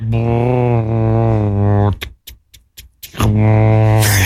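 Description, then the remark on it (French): A voice imitates bus doors opening: a steady low hum, a run of sharp clicks and pops, the hum again, then a short burst of hissing air at the end. “Ah, c'est les portes du bus qui s'ouvrent.”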